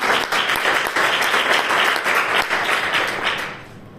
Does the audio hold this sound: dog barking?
no